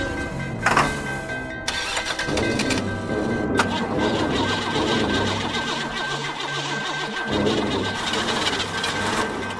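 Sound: car engine cranking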